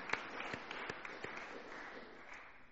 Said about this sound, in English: Well, a round of applause to all of you. That's amazing.